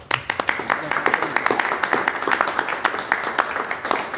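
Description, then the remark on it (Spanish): An audience applauds at the close of a talk about an artwork, steadily for several seconds, a dense, crackling wash of many hands clapping at a fairly even loudness with sharper individual claps popping through. “Aplauso, medalla y beso.”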